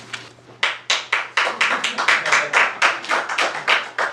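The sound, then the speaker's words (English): Steady rhythmic clapping from an audience in a meeting room during a public meeting on an ordinance, sharp claps at an even pace of roughly four per second, fairly loud, with a faint low hum underneath and no talking. “It's okay, they can applaud and we can relax.”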